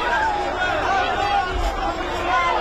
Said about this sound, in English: Cheers from Israelis watching on an outdoor screen in Tel Aviv, the three looking gaunt and frail, all taken when Hamas attacked Israel on October 7th.